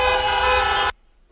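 A loud, sustained car horn blares for nearly a second with a rich, steady tone, then cuts off abruptly into near silence; a car honking at a Joe Biden rally for Senate candidate John Ossoff.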